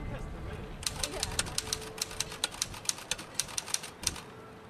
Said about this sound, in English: The typing comes in spurts.